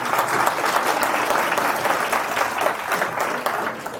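A crowd applauds steadily to welcome a speaker giving a talk on recognizing burnout, a dense wash of many hands clapping at once that stays fairly loud and even for the whole stretch, with no voices standing out.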